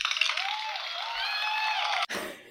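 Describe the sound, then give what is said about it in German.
A burst of applause from a crowd, dense and steady, with whoops and whistles rising over it, then a brief cut into a lower rustle at the end. “Nochmal Applaus. Oh, nochmal Applaus.”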